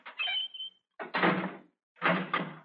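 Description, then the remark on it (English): A heavy cell door creaks open, then slides and bangs shut with two loud, harsh metallic clanks in quick succession, with no voices. “Stand back from the door.”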